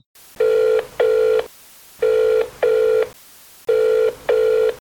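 A phone ringing tone heard over a speakerphone: three double rings, each pair of steady, buzzy mid-pitched tones followed by a short pause, with no talking.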